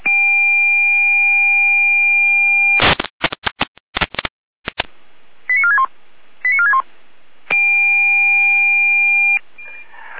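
An emergency dispatch alert tone calling out a Red Cross unit in Saalfeld: a steady, loud electronic chord, then a rapid burst of data-like clicks, two short descending chirps, and the steady tone again. No voices.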